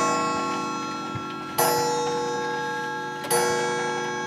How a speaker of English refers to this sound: Dozens of antique clocks keep time in his home.